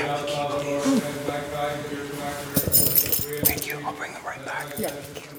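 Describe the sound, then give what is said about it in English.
A bunch of keys to a church bell tower jangles and clinks for a couple of seconds midway, inside a hushed church before a service, over a steady, humming tonal background and faint, hushed voices. “… lowers his voice to a whisper to ask for the keys to the bell tower.”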